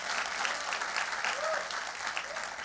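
Sustained audience applause fills the scene, a dense steady patter of many hands clapping at once, with a few faint voices or cheers rising briefly above it.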